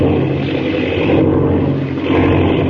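A propeller airplane engine drones loudly and steadily in flight as the plane goes out of control, a dense, continuous roar with a low throbbing hum and a slight swell near the end, with no voices.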